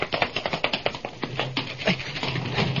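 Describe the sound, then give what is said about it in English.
Quick, even knocks tap on a lab door, about a dozen sharp raps in fast succession, before thinning into looser taps as a low steady hum rises underneath. No voices. “Tap the door.”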